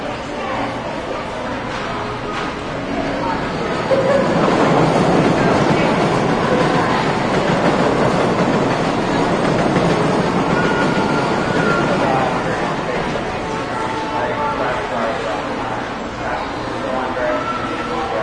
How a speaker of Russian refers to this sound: Лениво двигающаяся публика и редкие поезда.